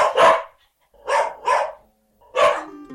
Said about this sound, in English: We managed to catch up with the dog and get an exclusive interview. Here is the dog.